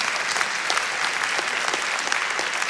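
A large audience, many of them managers and employers, claps steadily, a dense, continuous wash of many hands applauding at once, fairly loud, with no voices rising above it.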